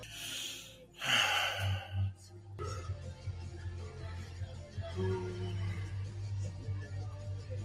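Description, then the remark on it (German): A loud, open-mouthed yawn with no hand covering the mouth: a sharp breathy intake swelling into a long, drawn-out voiced groan, followed by a low steady hum and faint rustling. “Und nicht die Hand vor den Mund nehmen beim Gähnen.”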